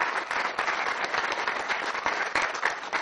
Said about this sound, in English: so round of applause for you two. It's awesome.